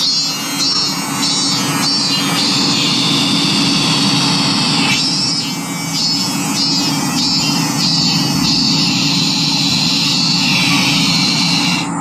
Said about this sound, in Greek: Θέλω να ακούσετε τον Ιαπωνέζο, τον Τζίτσικα, τον Ζίζιρο. Να τον ακούσουμε.